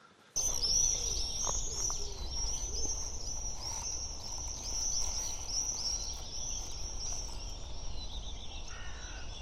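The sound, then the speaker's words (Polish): Young woodpeckers call from a nest cavity in a continuous, high-pitched, buzzy begging chorus that runs unbroken throughout, fairly close, over a steady rustling background of wind and leaves. “Młode dzięcioły słychać. Dziupla z dzięciołami jest gdzieś blisko.”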